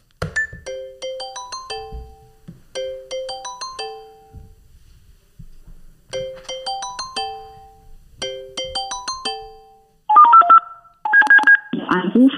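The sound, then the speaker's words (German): A home emergency alarm unit, set off as a test alarm, dials out with four rapid bursts of DTMF tone sequences, bright multi-pitched beeps in quick runs, followed by a short electronic tone pattern and ringing as the call connects to the home emergency call centre. “Ich würde sagen, wir hören uns das einfach mal an, wie es heute klingt und lösen einfach mal einen Alarm aus und schauen mal, ob jemand dran geht.”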